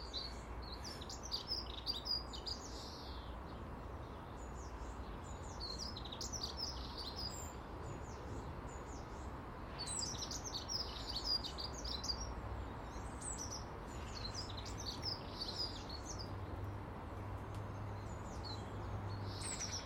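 A small bird sings repeated bright, high chirping phrases from near the top of a conifer overhead, fairly clear above a steady outdoor hiss, with no one talking.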